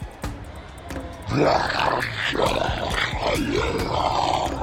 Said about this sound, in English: As they hurried closer to the breach cage, the Goliath still pursued the pheromone-drenched contestant. The beast roared, dragging its massive claws along the ground as more metallic debris coalesced around.